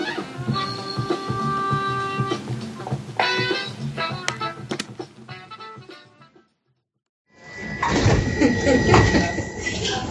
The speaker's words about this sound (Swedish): Den är inspelad på tunnelbanan, så det är lite extra oljud.